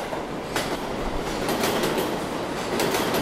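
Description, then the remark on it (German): A New York subway train rumbles along, a steady loud roar of wheels on track with periodic rhythmic clacks and bursts of metallic noise, no voices. “Ich kenne die New Yorker U-Bahn eigentlich nur so. Laut, meist viel zu kalt klimatisiert und innen und außen metallisch glänzend.”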